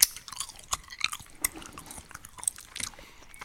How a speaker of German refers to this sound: Hör auf, ins Mikrofon zu kauen.